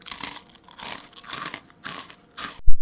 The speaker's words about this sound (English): Ah, will you please chew with your mouth shut? I can chew with my mouth shut. Of course I can. But I'm not gonna.